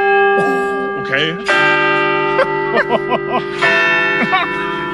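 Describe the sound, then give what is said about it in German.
A church bell strikes three times at 8:45, each toll ringing out and lingering with a long, resonant hum, while people talk over it. “es ist 8:45. Drei Glockenschläge.”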